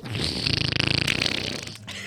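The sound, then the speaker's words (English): A voice imitates a fart with a buzzing, sputtering raspberry of the lips, rapid fluttering pulses lasting about two seconds, fairly loud, with no talking. “I am more dignified than making fart sounds.”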